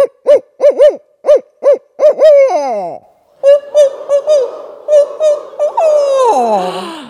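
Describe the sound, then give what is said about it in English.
A human voice mimics a barred owl's rhythmic hooting series, ending in a descending, drawn-out call. Then a second voice answers with its own imitation of the same pattern, clear. “Now, we're going to mimic that same pattern with our owl face on. I'm going to call first, and then you call back.”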